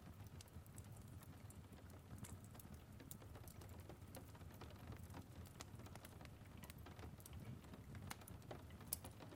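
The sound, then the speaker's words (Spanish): Irregular raindrops tap sharply against cold window glass, scattered, over a soft steady background hush of rain. No voices. “Y después te acercas a observar la lluvia a través del frío cristal, mientras observas cómo las pequeñas gotas golpean la ventana.”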